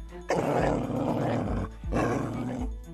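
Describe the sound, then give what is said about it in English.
A dog snarls and growls aggressively in two loud, sustained bursts separated by a short pause, with rough, throaty barking edges and no talking. “Whoa, down boy.”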